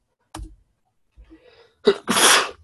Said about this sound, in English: Whew. For some reason, I'm just sneezing up a storm today.